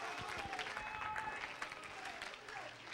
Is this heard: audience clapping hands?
yes